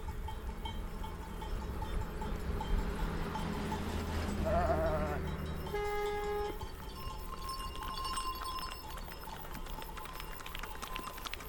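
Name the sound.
sheep bleating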